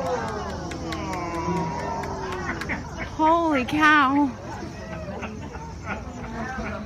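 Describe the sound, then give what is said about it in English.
A small group of people exclaim and chatter excitedly at a flock of tree swallows along the shore in fall, with one loud, rising-and-falling amazed shout, over a steady background of wind or rushing air and faint high chirps. “Now, you're hearing people reacting to tree swallows.”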